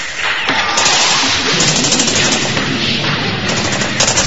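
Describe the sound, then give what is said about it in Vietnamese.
Dense, sustained AK automatic rifle fire from soldiers at about 20 metres, rapid overlapping bursts roaring continuously, loud and harsh with no pauses, like several weapons firing at once, bullets whistling through the air. “20 thước súng AK nổ rền, đạn rít trong không khí, đạn cay trên mặt đất đầy cỏ tranh.”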